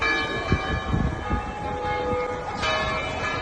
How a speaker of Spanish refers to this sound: Ayer las campanas de todas las iglesias aragonesas tocaron a muerto tras conocerse el fallecimiento del pontífice. Así, por ejemplo, sonaban las campanas de la Basílica del Pilar en Zaragoza.